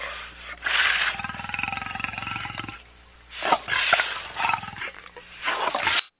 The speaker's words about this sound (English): Yeah, that's a lion right there. It's pretty scary. Sounds like it's going to eat somebody.